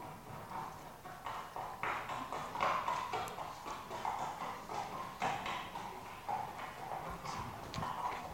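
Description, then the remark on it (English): Horses' hooves clip-clop steadily on pavement, a brisk, uneven rhythm of sharp knocks from more than one animal, moderately loud throughout. “A sound of horses' hooves, wasn't it? Clip-clop, clip-clop on the pavement.”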